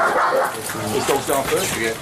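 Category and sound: animal, police dog barking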